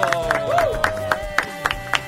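Scattered applause: a small audience claps in loose, uneven bursts for about two seconds, each clap crisp and sharp, with a faint sustained tone and low murmur underneath, for a special guest in the booth of radio station 88.3.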